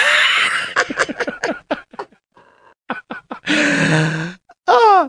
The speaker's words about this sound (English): And he's talking about the fans are about to get loud. You'll hear the roar. You'll hear the roar. Here comes the roar.